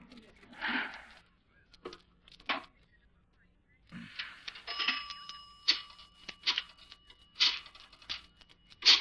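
A telephone being dialed, with a run of clicking and whirring bursts, followed by a tinny bell-like ring repeating a few times, moderately loud.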